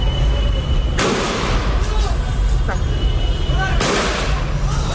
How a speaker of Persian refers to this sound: اینجا در شهر عوض، یکی دیگر از شهرهای استان فارس، معترضان علیه رهبر جمهوری اسلامی شعار سر دادند.